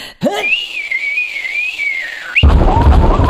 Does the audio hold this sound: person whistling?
yes